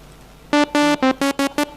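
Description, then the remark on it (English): Six short, buzzy synthesizer notes from an AM Synth plugin loaded in Carla play in a quick, slightly uneven rhythm, each a bright, harmonically rich mid-pitched tone with a steady pitch, clear and loud with no voices. “Let's load one random plugin, AM Synth again.”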